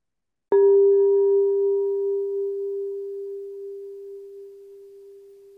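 A single bell is struck once, and its clear, steady mid-pitched tone rings on alone, fading very slowly with faint higher overtones dying away first.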